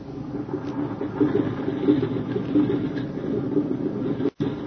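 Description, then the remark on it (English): A steady, low droning engine hum runs throughout, a dense rumble with faint fluttering texture and no voices, as an airplane engine warms up, cutting out abruptly for an instant near the end. “She said goodbye to Jim as the plane was warming up to take him on the first leg of his journey.”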